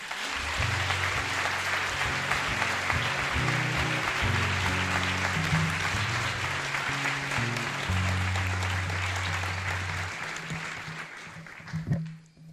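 A crowd claps loudly and steadily for about ten seconds, a dense wash of applause over low sustained musical tones, which fade out before the clapping tapers off near the end.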